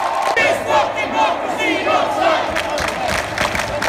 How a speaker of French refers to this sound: Au début des années 1970, William Burroughs préconisait non seulement l'usage d'infrasons dans les concerts pour faire vibrer le public, mais aussi la diffusion de sons d'émeutes pour créer des émeutes.